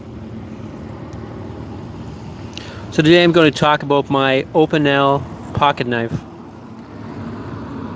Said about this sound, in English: But I'm downtown and there's buildings in the way and lots of traffic, as you've heard.